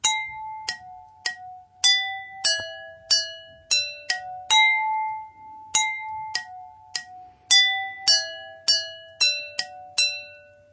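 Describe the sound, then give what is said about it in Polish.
A simple tune tapped out on five tuned drinking glasses, each clear ringing note struck in a steady rhythm and left to chime briefly, with a faint hum underneath and no talking. “Jeśli ponumerujecie swoje szklanki, to możemy wam podać zaraz wzór, jak zagrać tą melodię.”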